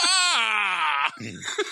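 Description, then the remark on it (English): A loud, shrill cartoonish scream from the character Robin in a Batman movie holds a high pitch for about a second, dipping slightly early on, then breaks off into a short, lower, sputtering vocal sound. “Robin screams hilariously.”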